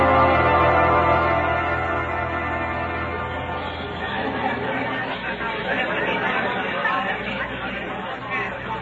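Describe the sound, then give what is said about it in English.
A loud, agitated crowd in a courtroom clamors continuously, many voices overlapping in a dense roar of shouting and chatter with no single voice standing out, holding steady throughout. “Christian, this is more like an angry football crowd than a courtroom.”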